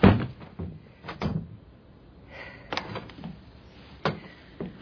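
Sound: rattling a locked door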